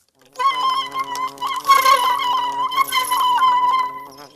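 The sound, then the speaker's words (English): A dense, steady buzzing of bees hums, with overlapping wingbeats swelling louder in the middle and again toward the end, no voices present. “When the guard bees heard this, they discussed what could be done. So hörst man das.”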